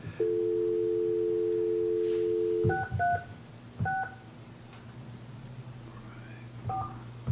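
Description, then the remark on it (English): A steady dial tone hums for a few seconds, then a quick series of touch-tone beeps as a phone number is punched in, each key a short dual-pitched chirp, with faint background hum. “Okay, I dialed the second one is the one I dialed earlier.”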